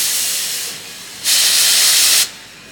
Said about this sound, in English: On quitte la gare, j'espère que vous avez pris vos places, les passagères et les passagers, pour le night train